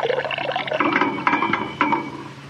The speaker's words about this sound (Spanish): Ahora que me bañe, voy por los sonidos de agua, que son los que toca juntar ahora para la siguiente sala. Yo creo que me voy a ir hasta el estero. Ahí hay sonidos de río y demás.